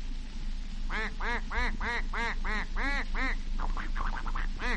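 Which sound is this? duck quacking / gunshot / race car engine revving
duck quacking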